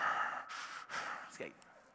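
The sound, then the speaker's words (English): A voice imitates heavy breathing into a phone, like someone listening in on a party line from another phone in the house: three or four loud, airy breaths in and out, rhythmic, ending with a short snorting gasp. “Like picking up another phone, you guys remember this? In the house, listening in on a conversation, right? You can hear breathing.”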